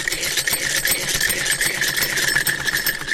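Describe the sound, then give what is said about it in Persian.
An old sewing machine, used to sew customers' clothes, runs steadily with a fast, even mechanical clatter and a constant high whir, holding a consistent loudness throughout without pauses. “اینمی لباسایی را که میبینیم بند است تمامش توسط از این ماشین دوختیم که از مشتری هست.”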